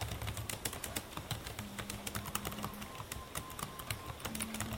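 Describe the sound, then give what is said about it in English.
Rapid, irregular clicking of keys on a computer keyboard, a steady flurry of soft taps over a few seconds, with a faint background hum and no one speaking. “Sorry, when I'm on the computer, sometimes people... I'm on the computer to give a class.”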